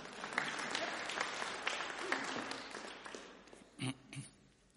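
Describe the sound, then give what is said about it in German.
An audience claps steadily during a sermon, applauding the Alpha course staff, in a dense wash of applause that gradually thins and fades, with a couple of brief voice-like sounds near the end. “Applaus wäre es wert, ja?”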